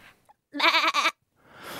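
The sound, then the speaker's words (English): A person does a loud goat impression: a wavering, vibrato-filled bleat of about half a second that breaks briefly and resumes, with quiet gaps before and after. “All right, in 3, 2, 1, your goat impression.”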